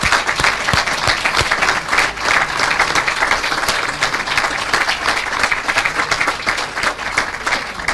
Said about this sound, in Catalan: Un aplaudiment també per a l'Associació de Dones.